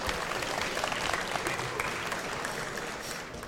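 An audience claps steadily, a dense wash of many hands that holds at an even, moderate loudness throughout before easing slightly at the end.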